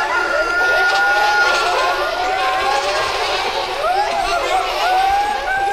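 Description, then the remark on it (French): A dense flock of hens clucking and squawking together, many overlapping calls rising and falling continuously and fairly loud throughout, with no talking. “À ces mots, des poules et des chèvres sortirent des forêts.”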